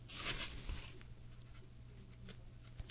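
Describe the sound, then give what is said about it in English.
A papery rustle and swish, loudest in the first half second, as a book page is turned, followed by quieter crinkling over a steady low hum. “These pages are a little hard to turn today.”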